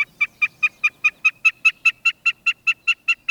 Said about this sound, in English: Snipes also sing from the ground.